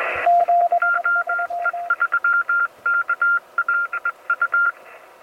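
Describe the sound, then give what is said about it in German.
Morse code beeps from CW radio stations confirming an emergency radio call, over a faint radio hiss: a lower-pitched keyed tone sends a short burst, then a higher tone taps out a longer string of dots and dashes. No one speaks. “Dann ersuche ich CW-Stationen um Bestätigung.”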